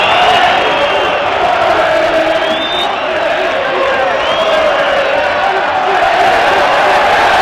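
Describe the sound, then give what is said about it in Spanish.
A loud stadium crowd at a football match in Cornellà on 25 January whistles steadily for several seconds, a dense roar with thin whistle tones, while a group of Espanyol fans under it make rough hooting noises imitating monkeys as Williams leaves the field. “Pero por debajo del, a por ellos, por debajo de los silbidos, hay un grupo de hinchas del Español que imita el sonido de un mono cuando Williams sale del campo.”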